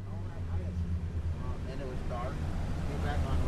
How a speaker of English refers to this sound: It's 7 a.m. on a Tuesday morning, and a boat named Fishing Fool 4 pulls out of a private dock in the town of Isleton. It's loaded with poles and bait and four avid fishermen.